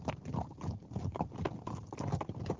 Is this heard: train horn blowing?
no